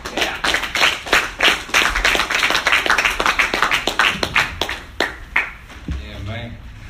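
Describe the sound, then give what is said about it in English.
An audience at a comedy show applauds a comedian with dense, steady clapping that thins out and fades after a few seconds, then a man's voice begins speaking as the applause dies down. “Keep that applause going for your next comedian,”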